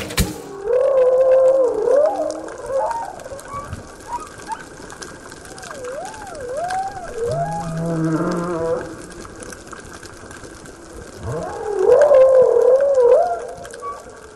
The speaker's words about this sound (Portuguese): O som que estamos ouvindo ao fundo são vocalizações de baleias jubartes gravados nas proximidades da ilha de Alcatrazes, no litoral norte de São Paulo, perto de Ilhabela.